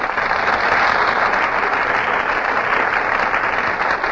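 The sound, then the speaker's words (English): Steady, dense audience applause as Fred McMurray and Carol Lombard make their entrances on the Gulf Theater stage, a continuous crackling wash of many hands clapping at an even loudness with no voices over it. “You just can't help applauding when Fred McMurray and Carol Lombard make their entrances on the Gulf Theater stage.”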